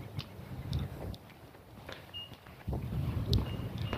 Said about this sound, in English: You might be able to hear it rustling leaves here. There's a pretty good wind overnight, which ironically helps to keep the ambient temperature up, even while it makes the effective temperature go down.